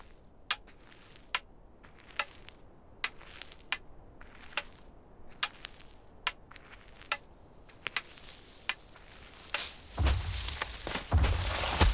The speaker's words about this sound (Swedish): Det prasslar i löven. Är du vargen? Frågar Rödluvan. Nej, jag är en igelkott.